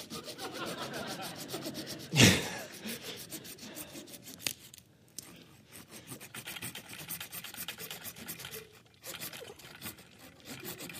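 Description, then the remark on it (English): A hand saw rasps steadily through a wooden log in quick, rhythmic strokes, with one sharp thump early on and a brief pause before the sawing resumes. “Some of you guys make this look so easy. We have a chainsaw.”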